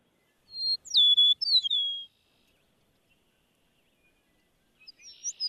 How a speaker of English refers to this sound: Well, I want to give a sound to the bird in your title there, an eastern meadowlark. Here's a listen.